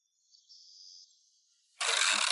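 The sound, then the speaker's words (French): A drawbridge over a river opening, its sides lifting so a boat can pass beneath: a thin, steady mechanical whine gives way to a sudden loud, broad grinding rush near the end, with no voices. “Les côtés du pont se soulèvent et les bateaux peuvent passer dessous.”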